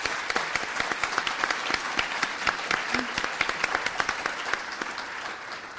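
Sustained applause from an audience for the librarians, at an evening event where six library systems came together for a big read; many hands clap in a dense, steady patter that holds at a fairly even level throughout, with no voices standing out.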